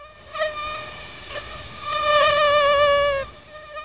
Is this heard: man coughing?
no